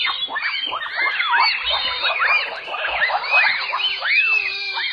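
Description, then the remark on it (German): A dense chorus of high-pitched calls from bonobos, a great ape species, shrill rising and falling whoops and squeals overlapping continuously, loud, with no talking. “Nein, sind keine Vögel. Das sind Bonobo-Affen, die gehören zu den Menschenaffen und ihre Sprache gilt als sehr weit entwickelt.”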